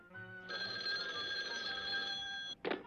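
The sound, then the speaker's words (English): A telephone rings with a sustained, bright electronic trill lasting about two seconds, followed by a short burst of a second ring. No one speaks. “Well, let's call him up right away and let him know the world's best car hops are available.”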